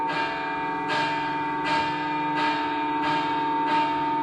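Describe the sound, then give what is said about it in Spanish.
A heavy church bell weighing about 2.5 tonnes rings repeatedly in a steady rhythm, each deep, resonant strike blooming over a sustained wash of humming overtones from earlier strokes, loud with no voices. “Controlar una pieza que pesa igual que un camión, la descarga de energía es importante, cuanto mínimo, cuanto menos.”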